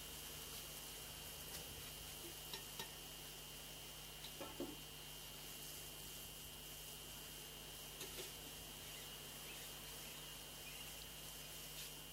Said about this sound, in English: ladles some of the prepared batter in a piping bag and holds the piping bag over the hot oil and moves the piping bag in a circular motion, forming a circle twisty shape.